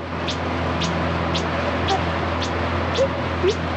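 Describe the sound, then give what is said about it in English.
A slowed-down sonar chirp sequence from a Chirp system probing beneath a lake floor, normally sent 16 times per second: seven short, high rising chirps repeating evenly about twice a second over a steady, loud hiss and low machine hum. “And interesting about this noise is that it's a sequence of chirps, which are sent out at a rate of 16 times per second.”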